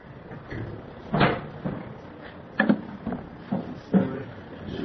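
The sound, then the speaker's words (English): A window is slid and pushed shut, with a series of dull knocks and scraping thumps spread over a few seconds against a low background hum. “Yeah, maybe we better close the window and then we'll turn on the air or something.”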